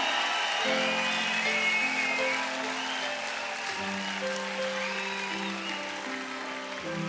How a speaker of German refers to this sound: Applaus. Auch nochmal. Dankeschön.